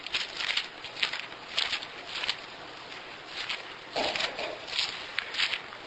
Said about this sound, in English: I love the sound of pages turning.